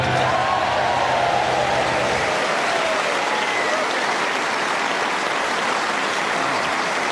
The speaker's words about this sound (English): Can I say your clapping didn't help one bit? They weren't clapping, they were passing around a tube of Pringles. Quite bad manners, really.